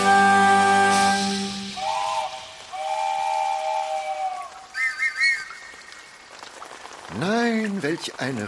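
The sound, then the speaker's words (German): Heavy rain hisses steadily throughout, joined by long, bright steam-whistle tones and a brief voice speaking near the end. “Welch ein Regen. Phänomenal.”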